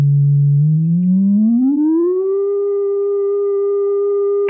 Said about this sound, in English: Hey, he's burning it. He's burning a hole right through the door.